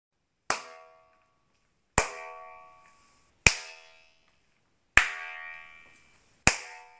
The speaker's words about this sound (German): Ja, das ist doch mal sehr eindeutig, oder? Das heißt, man hört sehr, sehr schön beim Klatschen, wie das Ganze immer wieder nachhallt und wie das so ein, ja, eben schon wirklich nicht mehr Nachhall in dem Sinne ist, sondern eben ein tatsächliches Echo